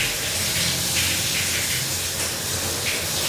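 Shower water running steadily as a person showers, a dense, continuous hiss and spray, staying at an even level throughout with no voices.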